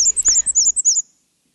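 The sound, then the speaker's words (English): A rapid series of thin, very high-pitched two-note wheezy phrases from a black-and-white warbler, repeated about six times in quick rhythm, then stopping abruptly; clear with no talking. “Its call is a very high-pitched, wheezy, wheezy, wheezy.”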